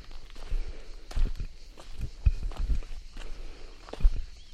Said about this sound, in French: Et moi qui marche sur le sentier plein de pierres.